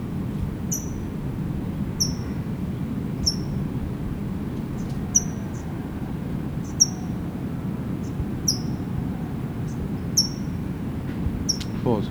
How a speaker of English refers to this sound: That's a Tohi chipping.